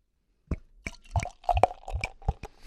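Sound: beer being poured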